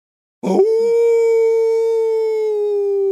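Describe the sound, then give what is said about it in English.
A loud, sustained howl starts with a rough burst and then holds one steady, drawn-out note for about three seconds, alone. It sounds like a person imitating a menacing dog's howl, performed on request as a demon dog howl ghost-story sound effect. “Demon dog howl.”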